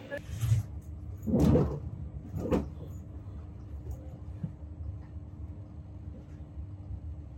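Public ambience at a busy train station with a steady low rumble, a couple of brief clattering knocks and faint murmuring voices, as a traveller heading to Oxford makes their way to the platform.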